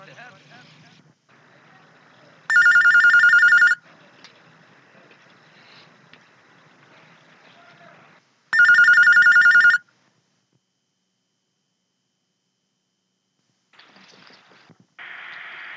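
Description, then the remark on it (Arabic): A telephone rings twice in loud, steady bursts about six seconds apart, with faint murmuring voices and background noise in between, then a short quiet pause before the line picks up for a call-in question session with Sheikh al-Albani, recorded in 1991, the caller phoning from America. “من سلسلة الهدى والنور أجوبة على أسئلة عبر الهاتف.”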